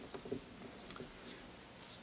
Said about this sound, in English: Good to hear those Bibles rustling.